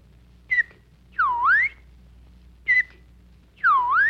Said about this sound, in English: Gee, I think you whistled everything except my name in that one